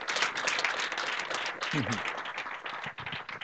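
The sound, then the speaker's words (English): An audience claps in a dense, steady wash of applause lasting a few seconds, with a brief murmur of voices partway through before the clapping carries on. “Yeah, you can clap.”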